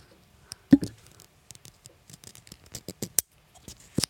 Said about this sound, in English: When you undo this little door, there's like a suction, which proves that it really is waterproof.